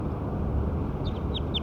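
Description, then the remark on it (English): A recording of bird six: three short, high bird chirps, each a quick downward-sliding note, sit faintly over a steady low rumble of background noise, with no voices. “So recording bird six again.”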